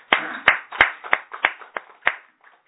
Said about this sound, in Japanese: 34歳を迎えられましたので、盛大な拍手でお祝いします。